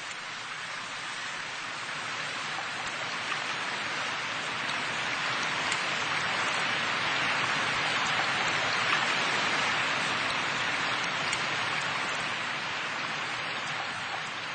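Steady rain pours down in a dense, continuous hiss, with the patter of drops on surfaces filling the background evenly throughout, no voices present.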